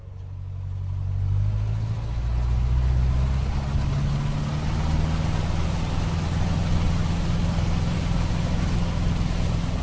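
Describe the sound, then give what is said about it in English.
A Cessna light aircraft engine drones steadily as the plane climbs over fields in North Bohemia, a loud, continuous low hum with a rough, buzzing texture that swells slightly in the first seconds and then holds even throughout. “The noise of the Cessna's engine made recording difficult, but it was an exhilarating feeling climbing up, up and away over the fields and into the air.”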